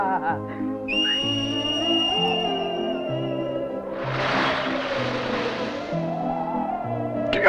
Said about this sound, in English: Winnie Vinegarbottle was so pleased that she whistled up a wind for us, and soon we were on our way once more.